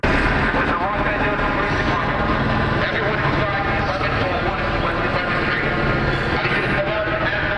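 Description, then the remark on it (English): An LAPD police helicopter hovers overhead with a steady, loud rotor and engine roar, while its amplified loudspeaker voice blares an indistinct announcement telling people inside a high-rise building to get out. “The LAPD helicopter telling those individuals to get out.”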